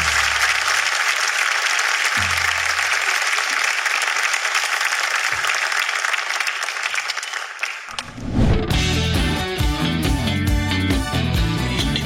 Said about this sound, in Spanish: Oye, el público, increíble. Un fuerte aplauso para el público. Gracias.